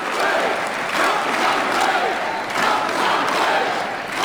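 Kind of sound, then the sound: crowd, crowd yelling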